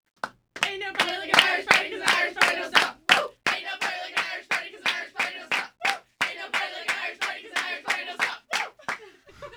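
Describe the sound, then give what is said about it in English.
The Sheldon High School softball team, Abby's Pizza Team of the Month, chants a rhythmic softball cheer in unison, punctuated by sharp, steady claps throughout. Loud and energetic, with a regular stomp-clap beat driving the chant. “Well, I know you want to do your softball cheer before you get out of here.”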